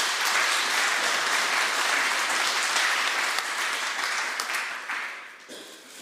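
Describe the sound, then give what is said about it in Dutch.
Sustained applause from a crowd, a dense steady wash of many hands clapping that holds strong for several seconds before tapering off at the end, congratulating someone just appointed a member of the Order of Oranje-Nassau by the King. No one speaks. “Van harte gefeliciteerd. APPLAUS.”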